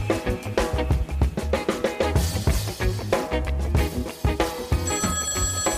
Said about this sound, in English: Sam, can you get that? It's the listener feedback phone.